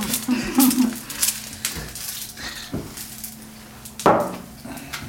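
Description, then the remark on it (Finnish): Several sharp knife strikes against a wooden cutting board as a large onion is chopped into bigger wedges, coming in an irregular, unhurried rhythm with one louder thunk near the end. “Sun täytyy pilkkoa nyt, koska mulla on mikrofoni”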